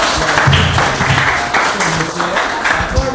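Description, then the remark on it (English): A comedy show audience claps steadily for a few seconds for a woman in the crowd, a dense crackling applause with voices talking and calling out over it. “Yeah, clap for”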